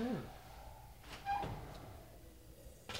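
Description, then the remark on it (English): A short scraping slide as pizzas are slid into an oven set to 450 degrees, followed by the clunk of the oven door swinging shut against a faint background hum, with a second light knock near the end. “So here we go, sliding them on, closing the door.”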